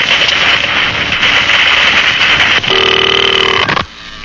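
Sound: telephone dialing and ringing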